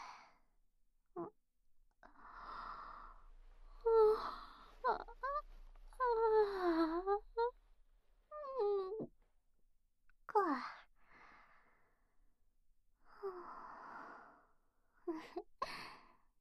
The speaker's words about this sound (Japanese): 大きなあくび出ちゃいました。